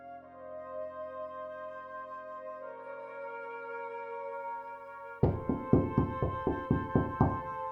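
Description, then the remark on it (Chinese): Soft sustained music plays, then a rapid series of about eight or nine loud, sharp knocks on a door rings out in a steady rhythm over the music, police knocking before more than ten officers burst in, on the evening of the third day of Chinese New Year 2003. “2003年大年初三傍晚，随着一阵敲门声，闯进来十多个警察”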